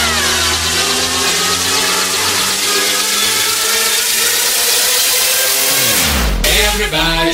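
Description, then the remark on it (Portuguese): A Scania 420 truck engine of Transportes Finato drones loudly and steadily with a deep, rumbling tone, then its pitch dips sharply and climbs again as it revs near the end. “Homem da Scania 420, 124.”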